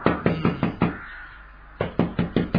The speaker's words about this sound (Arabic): نعم يا ولي. أطرق الباب